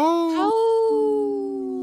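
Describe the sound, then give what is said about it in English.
A person on the radio show Native Roots Radio Presents I'm Awake imitates a wolf howl with one sustained, rising then gently falling vocal tone, loud, holding for about two seconds with no other talking. “Howl! Oh, I heard you,”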